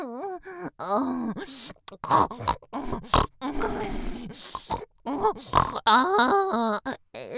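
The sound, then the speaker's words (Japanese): A voice imitates a pig with a string of fairly loud nasal snorts and throaty grunts in an uneven rhythm, mixed with drawn-out groaning tones and no words. “誰か豚みたいに鼻を鳴らす浅ましい姿をバカにしてやってください。”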